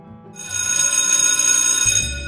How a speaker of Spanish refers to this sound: Sonó el timbre del recreo